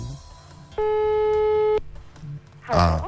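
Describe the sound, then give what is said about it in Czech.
A phone line's ringback tone sounds once, a steady, buzzy electronic tone held for about a second over faint background noise, followed by a short burst of a voice answering. “Tak, něco zvoní.”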